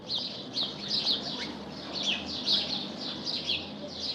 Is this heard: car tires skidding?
no